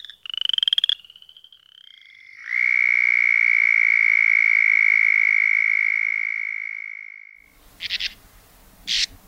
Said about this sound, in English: After the sounds of a spring thunderstorm, you heard two frog breeding calls from the upland chorus frog and the southern toad